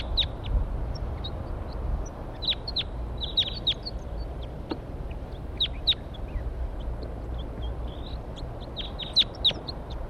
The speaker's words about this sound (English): Here they come. Now they're perched in the pine tree right above the where we're going to set up a net here. Stop. Wild birds.